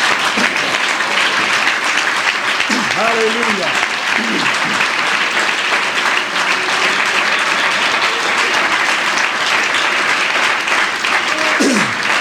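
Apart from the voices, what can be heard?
audience clapping hands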